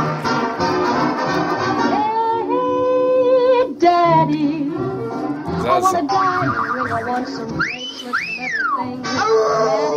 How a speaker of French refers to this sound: Ah, le loup de Tex Avery. Qu'est-ce que j'adore ça. Voilà, c'est un extrait, vous l'avez reconnu, de Tex Avery, dans lequel le loup devient complètement fou parce que le petit chaperon rouge se transforme en une chanteuse de charme.